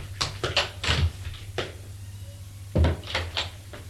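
A door being closed, a cluster of wooden knocks and latch clicks followed by another solid clunk, over a steady low electrical hum with no voices.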